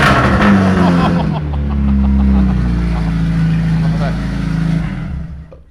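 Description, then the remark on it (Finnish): The engine of Mats Rinne's race car, a little over 300 horsepower, idles with a loud, rough rumble, then revs up and down in surging waves before easing off at the end. “Ja kyllä siinä tulee niinku vahva tunnelma ja meininki, kun tuo auto on päällä.”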